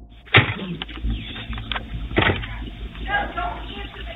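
Heavy bodily thuds slam against a door, two loud booming impacts a couple of seconds apart with a rattling, muffled resonance and faint lower knocks in between.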